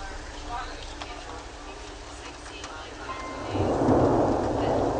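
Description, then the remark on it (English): Steady rain hiss in a field recording, with a deep rumble of thunder swelling in the final seconds, broad and rolling, growing louder toward the end, while music plays along in the background. “Now we're getting into one of the field recordings, one of the serendipitously beautiful field recordings where the thunder would happen and then the music in the background just went along with it amazingly well.”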